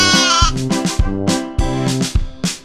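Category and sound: animal, sheep bleating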